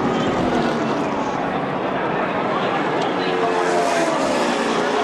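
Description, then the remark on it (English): A loud, continuous roar of stock cars racing about four deep at 200 miles an hour on the last lap of the Roadside Assistance 400 at Talladega Super Speedway in Alabama, ending in a huge wreck; a dense, steady wash of engine noise with no breaks, with muffled voices mixed into it. “Huge wreck to end this race. In that last lap, the cars are basically four deep there, going at 200 miles an hour.”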